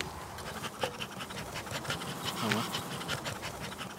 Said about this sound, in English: When we pump this smoke at them, they start sticking their heads inside of the cells and consuming honey because it mimics the experience of there being a forest fire in the area.